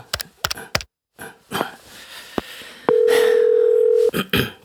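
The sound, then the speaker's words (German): A few sharp clicks and some handling rustle as someone places a phone call, then a loud, steady telephone tone hums for about a second before cutting off, followed by more clicks. “Ich ging zum Telefon und rief ihn an.”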